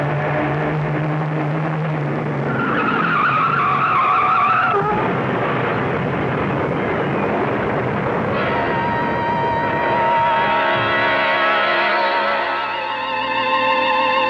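A car's tires screech and skid loudly as it swerves off the road to avoid a truck, with a long rising squeal over a roaring engine, followed by rumbling and a shifting, grinding whine, with no voices.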